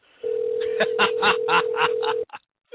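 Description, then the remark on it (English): A steady, single-pitched telephone dial tone holds for about two seconds while a call is placed to Eloy Perez, with faint murmuring voices underneath, then cuts off abruptly. “See if we can get Eloy Prince Perez here on the ring.”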